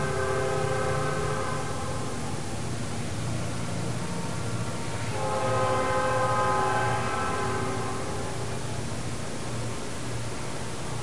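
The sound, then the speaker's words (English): A train rumbles steadily while its horn sounds in two long, loud blasts, the second starting about halfway through, over a continuous low roar of wheels. “We'll wait for the train.”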